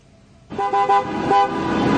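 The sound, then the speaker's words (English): After a brief quiet moment, several car horns suddenly blare together, overlapping and sustained, loud, honking continuously over a steady traffic rumble, from drivers in a Michigan traffic jam protesting the state governor's stay-at-home order. “Americans don't usually volunteer to get stuck in a traffic jam. But drivers from across Michigan came here to show their frustration.”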